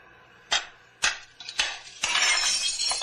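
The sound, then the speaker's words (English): A factory window's glass smashes under several sharp, heavy blows from a rock, four loud impacts at roughly half-second intervals, followed by a sustained rain of tinkling, shattering shards that trails off at the end. “You're going to crawl through that hole in the window?”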